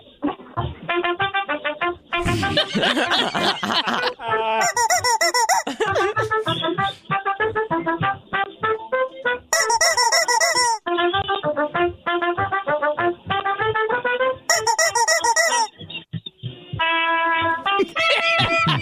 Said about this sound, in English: All I can hear is the trumpet. You can't even hear us.